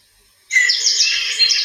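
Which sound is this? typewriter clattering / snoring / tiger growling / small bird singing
small bird singing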